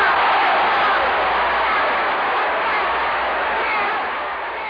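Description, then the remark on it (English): A large crowd in Memphis shouts and yells all at once in response to a speech, a dense, continuous roar of many excited voices that stays loud throughout and eases slightly at the very end. “You'll hear then bedlam, just people shouting and yelling, and it goes on for several minutes like he'd hit a home run.”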